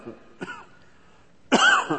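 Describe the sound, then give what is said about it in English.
A brief, muffled cough from a preacher during a sermon, followed a moment later by a louder, harsher cough with a raspy edge, with no talking. “Did you ever get a nagging cough?”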